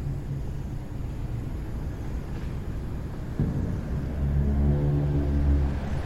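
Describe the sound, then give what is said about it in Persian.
A car engine drones steadily on the road, then the pitch shifts and rises as it accelerates, a continuous low rumble with no voices. “ماشین اردی تو جاده است.”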